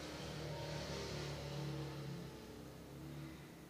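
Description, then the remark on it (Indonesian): A motorcycle engine drones steadily for a few seconds, its pitch wavering slightly as it passes outside, with no voices over it. “Oke, motor lagi.”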